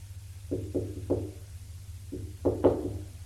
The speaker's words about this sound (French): frappe à la porte de la chambre